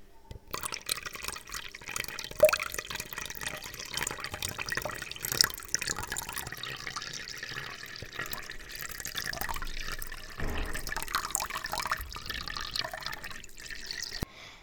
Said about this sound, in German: Er nimmt seine Gießkanne und schüttet Wasser in die Blumentöpfe.